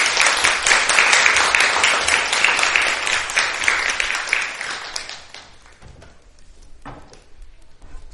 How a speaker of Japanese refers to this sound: 大きな拍手を持ってお迎えしましょう。よろしくお願いします。